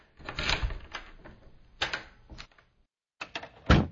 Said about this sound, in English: Mac locked the office door and headed down the creaky stairs behind Tess.